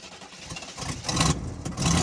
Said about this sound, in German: Glück gehabt. Nach 3 Versuchen startet der Motor wieder, hustet noch ein, zweimal, aber dann läuft er wieder